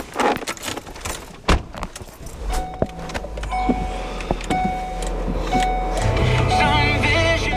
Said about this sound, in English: The side windows are frosted up. He fiddles with opening and closing them.